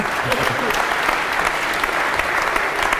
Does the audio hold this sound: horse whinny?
no